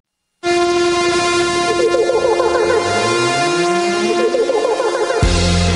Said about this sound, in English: There's your buzzer. Final score, Warriors 127 and Atlanta 113.